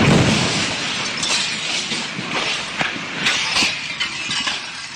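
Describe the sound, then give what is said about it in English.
Loud glass shattering: a dense, noisy crash that keeps going for several seconds, with scattered sharp tinkling hits as shards break and fall. No voices. “That is the closest approximation to what I heard. It just shattered. It exploded.”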